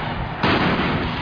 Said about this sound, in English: That sound you just heard was the sound of a tear gas fired by a police officer in an attempt to thwart this unruly demonstration.